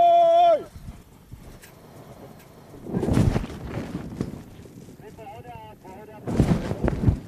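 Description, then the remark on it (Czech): Creaking and crunching bursts from a wicker hot-air balloon basket as it lands tilted on a meadow during a balloon competition, two louder rough spells among softer rustling, with brief voices at the start and in the middle. “Tak, slyšíte vrzání košatiny a my jsme přistáli.”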